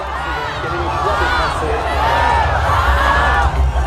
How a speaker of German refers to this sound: Wir haben gewonnen. Dieser Jubelruf wird immer wieder angestimmt. Auch schon vor 8 Uhr, als kurz vor der Schließung der Wahllokale der Countdown des Fernsehprogramms auf die Großleinwände übertragen wird.